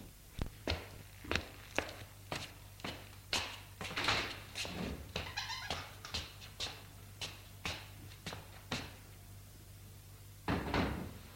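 A door is shut with a solid thud near the end, after a steady series of sharp, evenly spaced knocks or footsteps over a low, constant hum. A school concierge is closing the door of the exit passage from the courtyard, at 6:30 pm, after dark. No one speaks.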